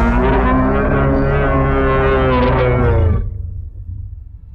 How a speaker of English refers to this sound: As the footsteps begin to increase pace, trees get knocked over and pushed apart as this hulking, bipedal wolf creature explodes out onto the path before you and lets out this bellowing roar.